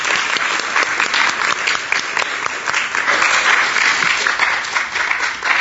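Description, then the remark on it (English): A crowd applauds a youth leader as she makes her way to the podium, a dense wash of many hands clapping at a fairly loud, even level for several seconds with no voices over it. “Give her applause.”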